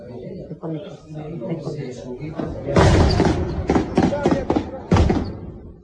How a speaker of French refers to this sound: Trois coups de canon et nous voilà à Vigo.